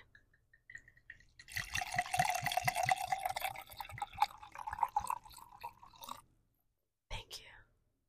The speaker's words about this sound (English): But hey, let's pour it up, pour it up. Say when.